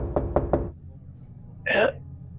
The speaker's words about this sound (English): You can choose not to open this footlocker. Oh, I'm not gonna open it. I'm not opening it. I'm gonna knock on it.